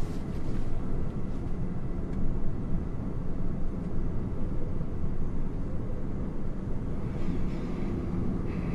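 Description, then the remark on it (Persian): A metro train runs through a tunnel, heard with a passenger seated in the metro car, giving a steady, loud, low rumble and roar that holds evenly throughout with no voices. “تونل مترو. گیهان با ریش و موی بلند تو واگن مترو نشسته.”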